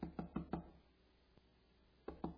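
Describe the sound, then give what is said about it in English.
A female cardinal pecking at a house's window glass: a quick run of four sharp taps, a pause with one faint tick, then another rapid burst of three taps, fairly quiet. “So for the entire week, she's been pecking at a number of our windows, one in the bathroom, one in the kitchen.”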